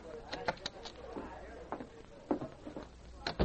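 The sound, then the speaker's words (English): A few quick, sharp knocks rap on a dressing room door in a short burst, followed by faint rustling and a couple of brief, muffled thumps. “A short time later, Sergeant Preston knocked on Dora Kyle's dressing room.”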